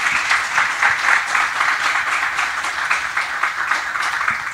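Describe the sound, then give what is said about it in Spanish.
An audience applauds steadily for the author of a book, a dense wash of many hands clapping at once with no clear individual beats, holding an even, fairly loud level throughout with no voices on top. “Le pido un aplauso, gracias, para ella.”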